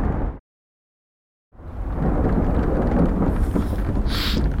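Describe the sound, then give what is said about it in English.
A loud thunderstorm: after a moment of dead silence, a deep rumbling roar of thunder swells in and keeps going, backed by a steady wash of heavy rain. “This storm is really bad.”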